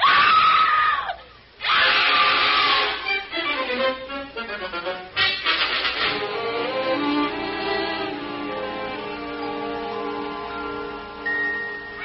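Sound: woman screaming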